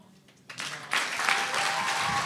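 Audience applause swells in quickly, turning from a few scattered claps into steady, dense clapping that holds at full strength to the end.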